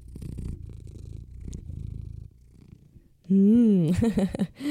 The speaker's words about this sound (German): Ich hoffe, ihr hört jetzt nicht meinen Kater, der hat sich gerade auf meinen Schoß gepflanzt und schnurrt hier ganz intensiv. Ich lasse ihn einmal ins Mikrofon für euch reinschnurren.